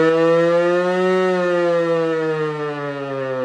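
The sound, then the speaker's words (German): A civil defense siren wails steadily, its harmonic-rich tone rising slightly then sliding gently lower over a few seconds. Loud, with no voices present. “Oh nein, schon wieder die Rassismus-Sirene.”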